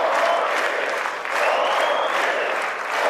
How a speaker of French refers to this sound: acclamation dans les rangs républicains